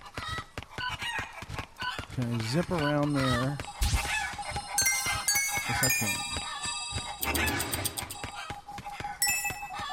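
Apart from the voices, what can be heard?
chicken clucking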